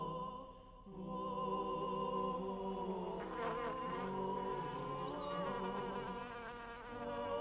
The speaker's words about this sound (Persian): زنبور حامل گرده‌های گل به سوی گلی دیگر پرواز می‌کند و به این ترتیب نقشه کامل می‌شود و این گل با فریب زنبور به هدف خود می‌رسد.